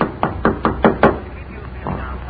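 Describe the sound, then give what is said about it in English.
Five sharp knocks on a door in quick, even succession, fairly loud, followed by a softer muffled thump as the sound fades. “Wait. There's someone at the door.”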